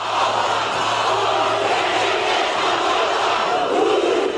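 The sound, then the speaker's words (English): A massive crowd of men, women and children at a stadium in Auckland, New Zealand, chants a world-record haka in unison, a dense, loud roar of many voices with shouted rhythmic calls that stays steady throughout, no single voice standing out. “They nevertheless chanted to the rhythmic movement of arms and legs.”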